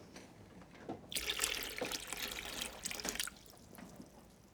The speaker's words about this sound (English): Now listen. Put some water in the kettle.